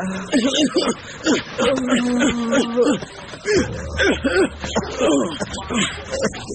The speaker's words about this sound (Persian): استاد چیه پس؟ چرا گریه رو شروع کردی استاد؟